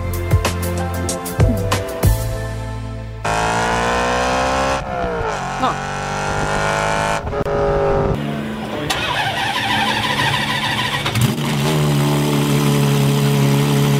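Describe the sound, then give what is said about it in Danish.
A loud car engine cranks and fires up, then roars through repeated revs that rise and fall, with a brief spoken word over the din. “Har folk, der kan lide larmende biler, en særlig personlighed?”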